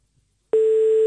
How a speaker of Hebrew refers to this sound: תענו לנו לטלפון עם איזה משפט של מצילים, והנה אנחנו מחייגים.